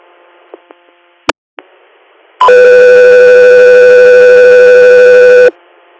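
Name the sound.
radio dispatch alert tones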